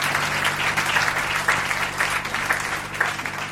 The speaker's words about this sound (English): A round of applause for Brother Makua.